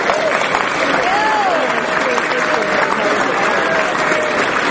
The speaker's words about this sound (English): Let's give her a great round of applause.